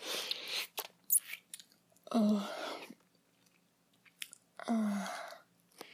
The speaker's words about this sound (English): Your girlfriend will always clean the last bit of spunk right off your cock. And slurp it off the mirror.